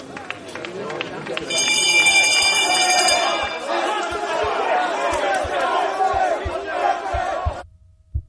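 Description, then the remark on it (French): A stock exchange trading floor full of people shouting over one another in a dense, continuous roar of voices, with a shrill steady tone ringing briefly early on, before the din cuts off abruptly. “C'est du bruit, c'est des gens qui hurlent, donc le son est dominant”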